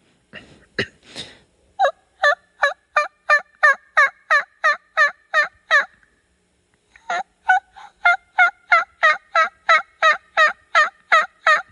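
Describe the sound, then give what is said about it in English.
Two runs of hen turkey yelps in the yelp round of a turkey calling contest put on by the National Wild Turkey Federation, each a steady, evenly spaced series of about a dozen loud, raspy notes that break from high to low, separated by a brief pause. No talking. “Moving on to the Yelp.”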